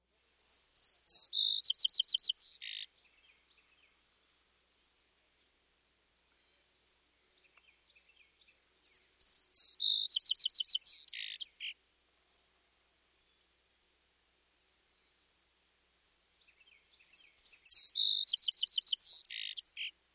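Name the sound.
song sparrow song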